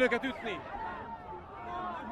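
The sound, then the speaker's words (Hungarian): Chatter from a protest crowd occupying a bridge at the Pest bridgehead, moving to the right toward the sidewalk: many overlapping voices blend into a steady murmur, with a few louder voices standing out near the start before the babble settles into a continuous hum. “Úgyhogy most a tömeg jobb oldalra tendel a járda felé.”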